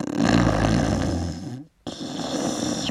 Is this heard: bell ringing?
no